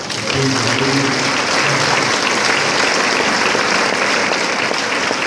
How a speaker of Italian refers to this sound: Questo applauso è un po' la nostra preghiera, e certamente e soprattutto coloro che ancor più sono stati vicino a lui lo sentono nella fede